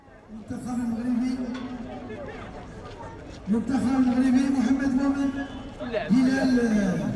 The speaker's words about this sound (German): El Aaiún, eine Stadt am Westrand der Sahara. Etwa 300 Zuschauer drängen sich an eine Straßenabsperrung. Dahinter eine Bühne und ein aufblasbares Zieltor, Start und Endpunkt eines Radrennens. 58 Fahrer aus Europa und Nordafrika sind gekommen.